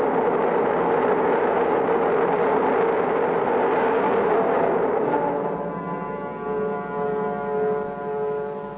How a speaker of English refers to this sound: We are counting down starting now. 13, 12, 11, 10, 9, ignition sequence starting. 5, 4, we have ignition. All engines are running. We have a liftoff.